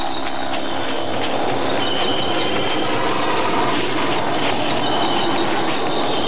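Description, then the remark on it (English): An airplane comes in to land on a floodlit landing strip, its engines a loud, steady, broad roar with a thin high-pitched whine threaded through it, holding unbroken for several seconds with no voices. “So what's that noise? Sounds like a plane. It is a plane.”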